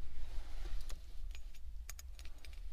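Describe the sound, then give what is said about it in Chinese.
Keys on a keychain jangle in a series of quick, bright metallic clinks, some clustered together, over a steady low rumble. The keychain was a gift and is said to report its owner's location in real time. “那，你送我的钥匙扣，这个小东西，不也会实时给你播报我的位置吗？”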